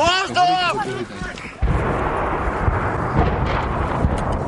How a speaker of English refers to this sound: In the Kyiv suburb of Irpin, people dash for their lives. Get up! As Russian shells rain down.